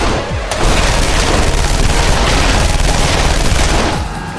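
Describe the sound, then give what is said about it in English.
Loud, heavy gunshots from a large handgun, fired from a moving raft on a stream at a mob, ring out in a dense, rapid barrage with booming reports, sustained for several seconds before easing off slightly; no voices. “Bracing himself against the movement of the raft while it gathered pace toward the center of the stream, Doc leveled his hand cannon at the enraged mob.”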